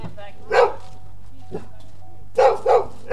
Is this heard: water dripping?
no